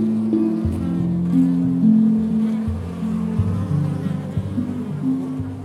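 A dense, steady drone of many bees buzzing together at a hive, fairly loud, with overlapping pitches shifting throughout and no talking.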